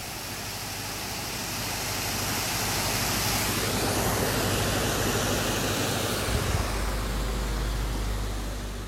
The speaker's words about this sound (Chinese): 而且很让我惊讶的是，我在这儿听到了哗啦啦的流水的声音，在这样的时节听到这样清澈的流水声，真的是让人觉得神清气爽，不知道大家能不能听到啊。